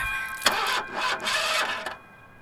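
A car engine cranks over and over without catching, a rhythmic whirring grind from the starter that stops abruptly after a couple of seconds, with no talking; the car fails to start because it has no gas.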